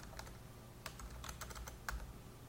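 Quick, irregular keystrokes clatter on a computer keyboard, a short burst of typing with uneven pauses between clicks, over a low steady hum, as the name of an exam is typed in.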